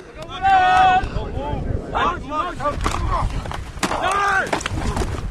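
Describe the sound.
Gusty wind rumbles and buffets steadily across an open outdoor field during Whalers football practice on a cloudy day at the Smurf turf of Kathy Parker Field, while several voices call and shout over it.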